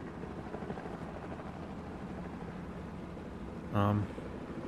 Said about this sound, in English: We're being followed. A helicopter is closing in behind us.